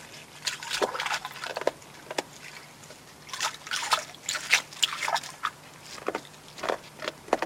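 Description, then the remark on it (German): A beaver splashes and paddles in shallow water, with irregular wet sloshing and crisp cracking, crunching sounds as it gnaws and bites on wood. Moderately quiet, with no talking. “Da plätschert es ein bisschen, da kracht es ein bisschen, Herr Kutschenreiter, was.”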